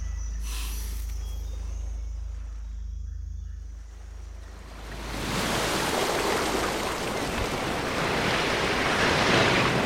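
Ocean waves wash in steadily in a bay, with a low rumbling first half giving way to a louder, broad hiss of surf breaking and spreading out from about five seconds on. No voices.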